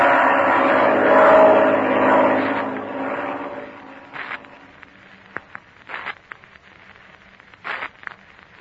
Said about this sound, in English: But listen. I hear. It sounds like a plane. You're right, Betsy. It is a plane. It's a black one.